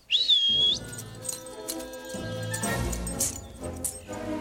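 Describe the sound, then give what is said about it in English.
A cadet's sharp, high whistle calling a dog: one shrill note that rises quickly and holds steady for about half a second, then gives way to a busy mix of background sounds. “A cadet calls the dog.”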